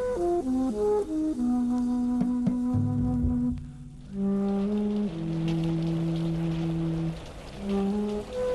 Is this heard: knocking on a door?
no